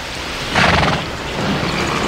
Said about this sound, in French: Un homme et une femme qui parlent avec des chevaux qui hennissent, qui bruissent autour, qui font qui bruissent. Des chevaux qui bruissent, non, c'est pas tellement... C'est un cheval qui hennit. Qui hennit, plutôt, oui, vous avez raison,